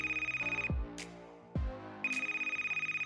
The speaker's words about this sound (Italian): E proprio in quel momento squilla il telefono sulla sua scrivania.